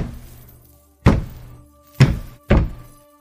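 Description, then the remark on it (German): Three heavy, deep footsteps approach, thudding one after another at an uneven pace, the last two coming quicker, each a dull booming impact over a faint steady hum. “Kasper und Boogerman nahmen im Besprechungsraum Platz und warteten eine gefühlte Ewigkeit, bis sie endlich schwere Schritte vernahmen, die näher zu kommen schienen.”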